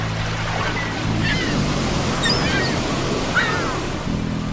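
A steady, continuous wash of sea waves breaking on the shore at Brighton on a June 2006 morning, with a low droning hum underneath and a few faint high calls drifting over the surf.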